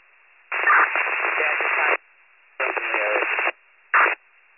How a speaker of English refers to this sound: You're all static, go again. Lieutenant 94-5, you're all static, go again.